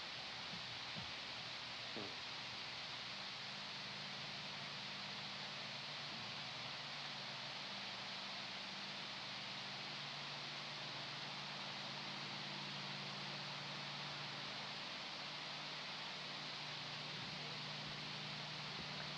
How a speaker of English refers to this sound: What are the motorboats? Are they interference?